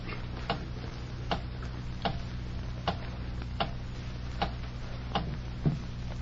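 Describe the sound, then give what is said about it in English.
A clock ticks steadily, about eight sharp, evenly spaced clicks roughly once a second, over a low background hum with no voices. “I'll be quiet and watch the clock.”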